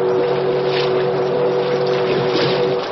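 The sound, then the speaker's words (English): The whistle of the Big Missouri, a paddle-wheel steamboat on a river, blows as a warning: one long, steady, loud note, held without a break over a rumbling boat engine and a rush of wind and water. “Once again, the whistle sounded as a warning.”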